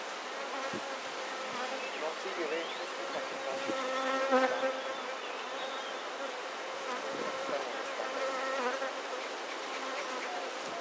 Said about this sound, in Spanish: nos permite la polinización de nuestros alimentos, la milpa, la calabaza, el maíz, todos los frijoles criollos que se siembran, pues es la polinización que hacen nuestras abejas.